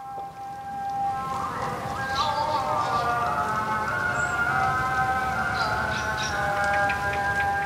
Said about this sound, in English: The call to prayer floats out over the center of Dushanbe, Tajikistan's capital, one rainy afternoon not long ago. It was only recently that this mosque was permitted to reopen and hold prayer services.